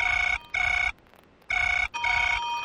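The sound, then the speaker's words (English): A telephone rings in an office in a double-burst pattern, two short bright trills, a pause, then two more, loud with no one speaking. “was in my office, listening to a record of vintage telephone rings, when I heard an unfamiliar sound. My actual phone actually ringing.”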